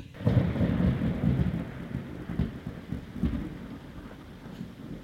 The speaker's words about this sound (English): I say, that's a little bit close. This must be the storm they're forecasting.